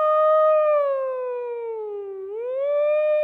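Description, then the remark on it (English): A single voice imitates a tornado warning siren during its weekly noon test, a loud, sustained wail that sinks slowly in pitch, then swoops back up near the end. It lasts about three seconds, with no talking around it. “And in fact, they happened often enough that they had these tornado sirens to warn you, right? And so every Wednesday at noon, they would test these sirens.”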